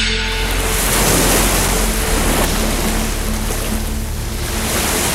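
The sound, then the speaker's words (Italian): A strong ocean wave crashes against rocks, its loud, rushing roar of churning water filling the whole moment with steady spray and surge, with no voices. “Purtroppo un'onda particolarmente forte lo aveva fatto andare a finire dall'altra parte degli scogli, dove c'era il mare aperto.”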